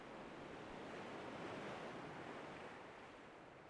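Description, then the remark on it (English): A steady outdoor wind rushes continuously, swelling a little in the middle before easing slightly, with a soft roaring, surf-like texture and no voices. “It's a bit windy.”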